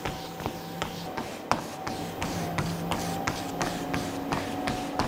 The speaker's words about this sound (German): Wir haben hier bei uns so ein Laufband, wo das die Kinder dann mal trainieren können. So, und jetzt musst du 2-mal auf die Starttaste drücken und dann geht's los.